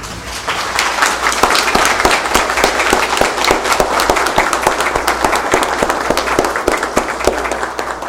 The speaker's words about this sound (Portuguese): Então, gente, eu gostaria de pedir para vocês aí, né, que nós saudassem esses companheiros aí. Uma salva de palmas aí, né?